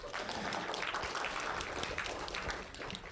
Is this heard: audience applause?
yes